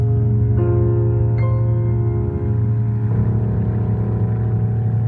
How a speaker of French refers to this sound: Et d'ailleurs, le moteur repart et le bafouillage cesse.